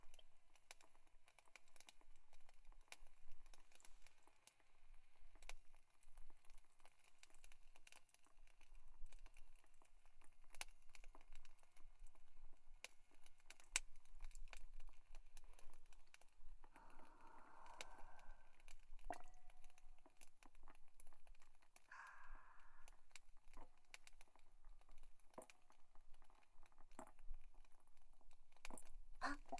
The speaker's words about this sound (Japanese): 止まって、ろ過器の鎖がポコポコと動いて沸騰してきたら、さっき引いたコーヒーの粉を入れるの。もう少しかな。ぐつぐつと。